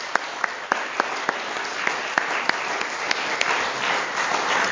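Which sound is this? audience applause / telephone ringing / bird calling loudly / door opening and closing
audience applause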